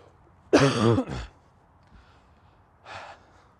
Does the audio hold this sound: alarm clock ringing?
no